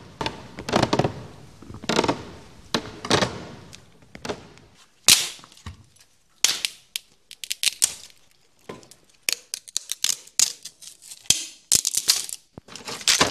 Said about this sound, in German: Vorsichtig gehen sie die Treppe hoch, einer nach der anderen. Bei jedem Schritt knarzt die Treppe, immer lauter, so scheint es.